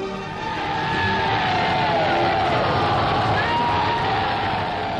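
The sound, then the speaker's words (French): A steady, loud roar of military trucks, jeeps, half-tracks and tanks rolling continuously along English roads, with whining mechanical tones and a dense wash of noise that may include crowd sounds. “Les camions, les jeeps, les half-track, les chars roulent sur les routes anglaises.”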